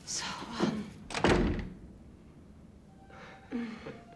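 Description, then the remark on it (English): A room door swings shut with a single solid, low thump about a second in, as repairmen enter the room. Brief murmured voices come just before it and again near the end, with quiet room tone between. “The repairmen enter her room, and the door closes on her.”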